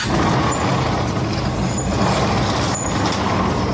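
A big heavy door, door number two in a guessing game, opens with a loud, steady pneumatic hiss and rumble that holds evenly for almost four seconds, with no voices.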